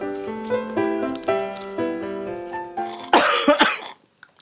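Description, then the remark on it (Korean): A man coughs repeatedly, a string of rough, voiced hacking coughs followed by a harsh, breathy burst before it falls quiet. No one speaks. “오빠 기침할 때마다 배가 뭉친다니까.”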